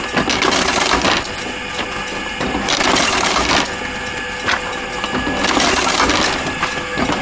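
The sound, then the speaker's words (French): Continuous papery rustling and shuffling as the sections of a book are taken one by one and set down onto paper at a machine from the 1930s, with several louder handling bursts along the way. No one speaks. “Alors on prend les cahiers du livre un par un. On pose sur la papier.”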